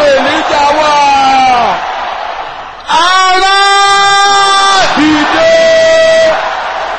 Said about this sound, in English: Finally, as you go into this week of testimonies, you now shout this loud and clear. Where is the Lord God of Elijah?